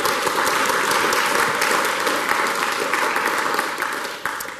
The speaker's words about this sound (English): A round of applause, please, for Sue.